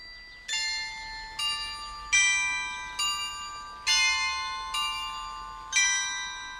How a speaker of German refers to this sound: So klingt das Glockenspiel am Königsberger Rathaus, ein Gebäude aus dem 17. Jahrhundert mit wunderschönem Zierfachwerk, gleich am großen, malerischen Marktplatz.